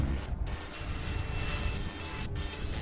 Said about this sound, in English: And this cast is based on a recording I made of a helicopter circling overhead a couple of times. I kind of dissect and chop it up and stretch it and mangle it.